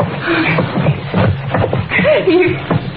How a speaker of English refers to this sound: Come on, now. Help me drag him over to that fireplace.